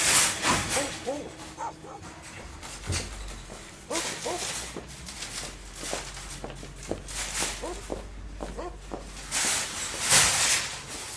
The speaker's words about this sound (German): immer wieder vor Supermärkten die angebundenen bellenden Hunde.